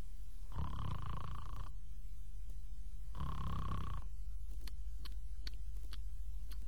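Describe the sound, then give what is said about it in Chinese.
A man sleeping behind the counter of a wine shop snores twice in slow succession, each long, rasping inhale rumbling loudly, followed by a few faint clicks and a steady low hum. “仔细一听，有打呼噜的声音。”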